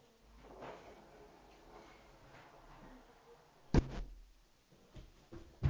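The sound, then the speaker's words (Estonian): A door closes with a sharp thud, followed by a softer bump a couple of seconds later, over quiet background shuffling and rustling. “Paneme siis ukse kinni, eks ju?”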